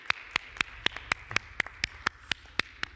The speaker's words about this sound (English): I think we can give a big round of, you know, applause to our God.